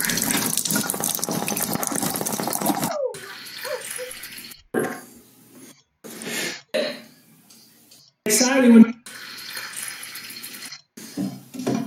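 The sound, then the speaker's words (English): Water from a water ionizer tap producing Kangen Water at setting 9.5 runs in a steady hiss for a few seconds, then continues in shorter irregular bursts and splashes with brief pauses between. “Power on Kangen Water 9.5. Lighter here, and turn it on.”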